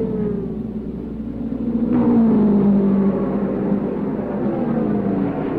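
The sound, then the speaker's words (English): A race car engine, car number two, roars loudly at the Trenton Speedway, its high whine sliding down in pitch as it sweeps past, then continuing as a steady, droning rumble. No one speaks. “Here comes Bobby Unser in car number two. He holds the track record here at the Trenton Speedway.”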